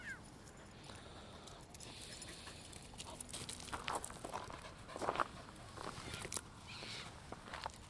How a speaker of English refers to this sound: She puts both fists in the air, then brings them down, then screams. Now she's stamping on the ground.